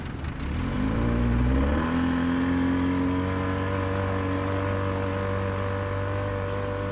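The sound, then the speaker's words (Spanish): The engine of a motorboat at the dock in Inírida, capital of Guainía, about to travel 65 kilometres to Cacahual, drones steadily, rising in pitch as it revs up during the first two seconds, then holding a loud, even hum with strong harmonic tones. No one speaks. “En el muelle ya está lista la lancha que nos llevará hasta el corregimiento de Cacahual.”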